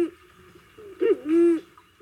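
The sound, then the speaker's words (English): A recording of a passenger pigeon call plays alone in a living room: a quick wavering hoot followed by a longer, steady, slightly raspy tonal note, moderately loud against a quiet background. “In his living room, he plays us a recording of the pigeon's call.”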